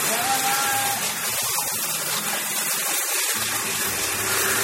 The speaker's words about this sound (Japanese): さて、もう計量カップ必要ないから洗うわね。水の音が出ますわよ。